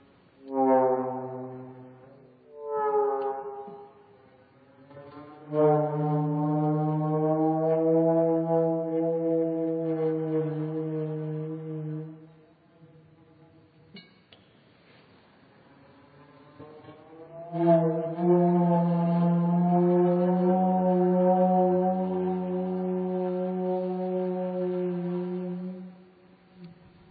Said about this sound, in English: this organ had been going to be quite mechanized, each note operated via a lever which would lower the tube down onto the flame, but I found that there were two or three different ways in which the flame could act on the gauze.